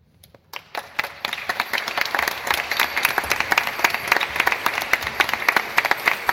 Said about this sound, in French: Oh, répondez vite que vous y croyez. Si vous y croyez, applaudissez.